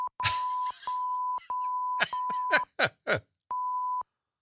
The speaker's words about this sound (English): All right, we added all those beeps just for effect.